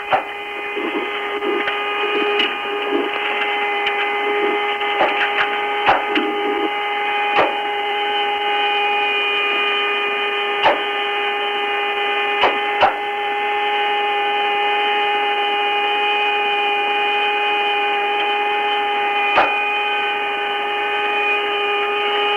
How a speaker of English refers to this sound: you ought to hear these thrusters firing in here. It's really like a big garbage can getting banged around.